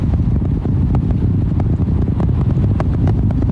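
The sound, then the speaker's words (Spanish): A continuous, heavy rocket-engine roar during a launch ascent as the engines increase thrust again to keep climbing toward space, deep rumbling bass with crackling bursts, steady and loud throughout with no voices. “Y los motores están aumentando su fuerza de nuevo para continuar el ascenso hacia el espacio.”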